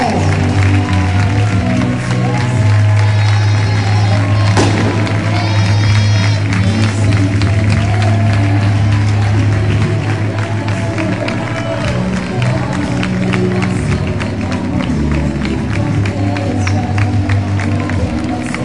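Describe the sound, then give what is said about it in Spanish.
A large crowd applauds and cheers steadily, with dense clapping, whistles and shouts blending into a loud, continuous roar of celebration that barely lets up throughout, as the club's players, coach and coaching staff arrive as promotion champions, received by the mayor of Huelva. “¡Fuerte aplauso a nuestros campeones! ¡Ya están aquí los héroes del ascenso!”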